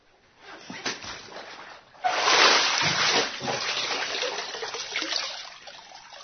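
After a few soft rustling sounds, a sudden loud splash of water bursts in and gives way to continuous sloshing and dripping as a person is baptized by immersion in the name of the Father, the Son and the Holy Spirit.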